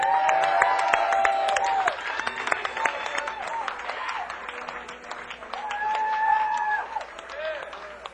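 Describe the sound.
An audience applauds steadily for about eight seconds, a dense crackle of many hands clapping, with shrill whistles and scattered cheering voices rising above it and fading as the clapping thins.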